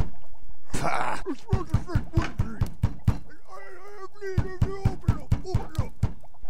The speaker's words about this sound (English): For goodness and mercy, who is beating down our door at this late hour?